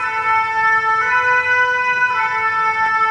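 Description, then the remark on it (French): A loud siren from a passing ambulance, the third one, wails steadily for the whole stretch, its piercing tones holding a constant pitch over faint road rumble, with no one speaking. “Troisième ambulance. Oui. Je sais pas si on attend qu'elle passe.”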